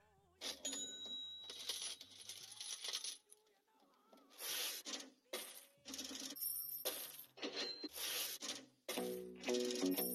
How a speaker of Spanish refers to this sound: Bueno, yo no sé, pero a mí me parece, Ivette, que eso parecía una caja registradora, o sea que eso es dinero. A mí me gustó todo el sonido que se escucha al principio, porque se oye de mucho dinero, entrando.